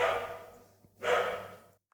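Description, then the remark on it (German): Two loud, muffled barks from a neighbour's dog in a hallway, each cutting in sharply and trailing off with an echoing decay, about a second apart over a low steady hum. “Das ist der Nachbarshund im Flur, der auch seinen Beitrag diesem Podcast Beisteuern will. Der ist aber echt laut.”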